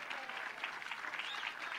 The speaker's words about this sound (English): Y'all have to keep clapping. They won't let me stay out here.